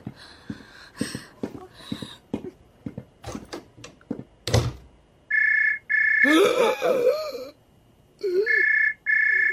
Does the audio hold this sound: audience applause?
no